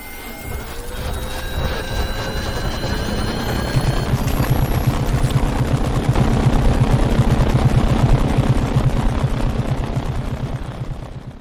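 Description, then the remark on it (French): A sci-fi sound effect for the dragonfly-shaped helicopters seen in films, made from a cat's purring, wind in a tent canvas and a giant beetle's wings: thin whistling tones over a droning rumble, then a rapid, steady, buzzy wing-beat flutter that stays loud and continuous until the end, with no voices. “Un son spécifique aussi, fabriqué à partir du ronronnement d'un chat, du vent dans une toile de tente, et des ailes d'un scarabée géant.”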